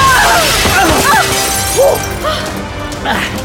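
A pane of glass shatters loudly as someone leaps through it, a dense crash of breaking shards that keeps spraying and tinkling for several seconds, with faint shouts mixed into the din.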